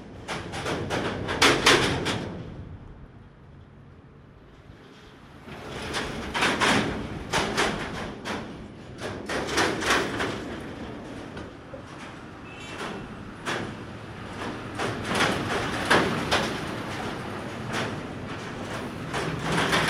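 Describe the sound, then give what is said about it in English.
Old cars from the 1950s rumble across an iron bridge over the river by the bay in Matanzas, Cuba, in bursts of rattling, clanking metal, each pass a broad loud clatter, separated by quieter lulls of low traffic hum. “the quintessential sound of the city of Matanzas is the old cars going across the iron bridge right down by the bay.”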